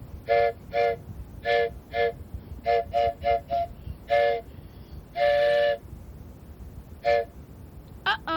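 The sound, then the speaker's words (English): A train sounds its horn in a rapid series of short toots, then one long blast and a few more, over a steady low rumble, loud, with no talking. “Here comes a train.”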